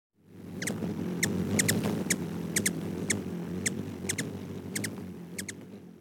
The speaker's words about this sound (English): We also attract these tiny, glittering birds with feeders filled with sugar water. Listen for the twitters and chips of the hummingbirds and the high buzz of the male's wings in flight.